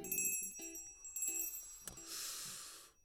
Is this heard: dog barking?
no